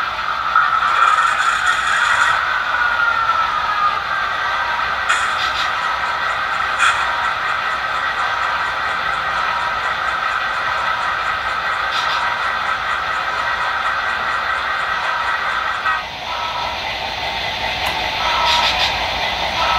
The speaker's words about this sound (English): You'll hear two of the three engines start up, and then I'll run the freight train, Milwaukee Road diesel, and a steam engine partially around the track so you can hear what it sounds like. Here we go.